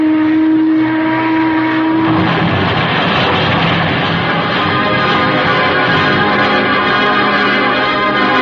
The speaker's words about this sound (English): Then I could see the Jacob's ladder tossing about alongside the pilings. But just as I reached it, I heard the Boston boat again.